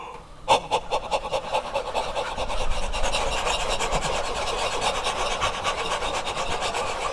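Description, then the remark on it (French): Quick, steady open-throat panting as a vocal exercise, breathy, with a raspy huff on each breath. It starts after a short pause and continues without letup for several seconds, with no talking. “Avant d'haleter, on va ouvrir la gorge ensemble.”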